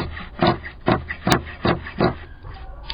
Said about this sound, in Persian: مشغول قیچی زدن قالین دستباف زنان آقچه ای است.